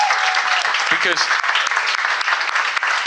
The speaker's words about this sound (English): And can we just have a round of applause for them two, please?